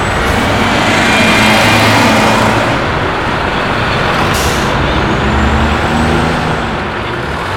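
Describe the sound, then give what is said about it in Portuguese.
A large bus rumbles with a loud, steady airy hiss, then its air brakes release a short, sharp burst of hissing air partway through. No one speaks. “Vamos usar algum meio de transporte para sairmos o mais rápido possível. Concordo com você, amiga. Vamos de ônibus.”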